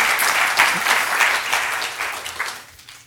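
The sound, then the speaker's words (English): A crowd applauds steadily, many hands clapping in a dense, crackling wash that holds strong for a few seconds before gradually thinning and fading toward the end. “That's your cue to clap.”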